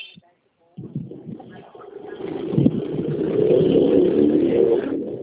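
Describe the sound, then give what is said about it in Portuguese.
A motorcycle engine drones past, its rough roar swelling louder over several seconds before easing off slightly, with muffled voices in the background. “Não, que a moto que passou aqui.”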